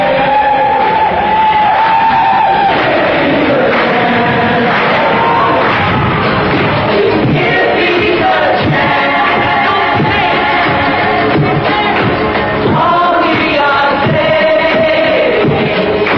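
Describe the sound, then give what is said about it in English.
Hundreds of people outside a murdered musician's apartment building in New York City chant in unison, many voices rising and falling together in a sustained, loud, sing-song refrain with no other sounds standing out. “They were silent for a long time, then a rumble through the crowd.”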